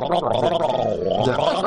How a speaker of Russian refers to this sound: набрав в рот пиво, пытается еще горлить, так сказать, вот, пожалуйста.